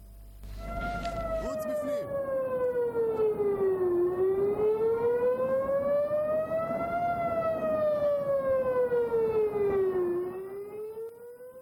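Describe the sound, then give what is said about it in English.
A rocket warning air raid siren wails steadily and loudly in Netivot, Israel, during a rocket barrage fired from Gaza. Its pitch slowly rises and falls in long sweeps that repeat over several seconds against a low background rumble. “Rocket sirens sounded in the Netivot settlement and surrounding towns.”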